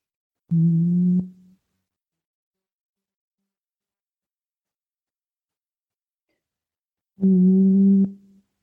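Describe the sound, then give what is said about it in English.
Two short, steady, quiet low-pitched hums from a person, each under a second long, separated by a long stretch of silence. The humming is clear. “And when I do that, I just quietly hum.”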